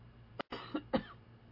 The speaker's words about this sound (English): The water that I choked on.